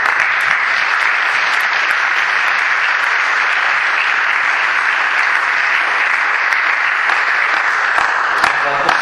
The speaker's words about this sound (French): Merci beaucoup. Je propose qu'on applaudisse.